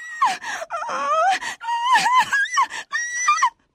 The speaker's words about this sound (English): But when she began to sink, she realized that she was not at all happy, and she began to cry.